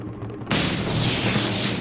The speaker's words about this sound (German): Ihr hört den Donner.